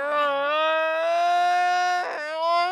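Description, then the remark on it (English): A gelada monkey's exhaled moan: a long, drawn-out, tonal moaning call held steady for about two seconds, briefly breaking with a breathy catch, then resuming. Fairly loud, with no talking. “This is a sound called the exhaled moan.”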